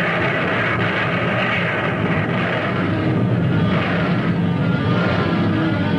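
Naval guns fire in battle, a dense, continuous rumbling roar of heavy gunfire that stays loud and steady for the whole stretch, with no distinct pauses and no voices.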